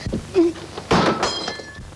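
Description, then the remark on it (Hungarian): A drinking glass is thrown and shatters: a soft thump, then a sudden sharp crash with bright, ringing shards tinkling away over the next second. “Négy félti azt a vacak poharat, veszek magának velencei kristályüveget, vágja.”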